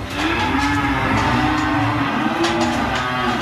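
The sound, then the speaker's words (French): Several cows on a farm in Sully-sur-Loire, France, moo in overlapping, drawn-out calls and stir as two farmers hand out their ration of maize silage, with a steady shuffle and clatter of a busy barn underneath, continuous and fairly loud throughout. “Les vaches de Jean-Louis et Nicolas Le Faucheux s'agitent tandis que les deux frères leur distribuent leur ration de maïs d'ensilage”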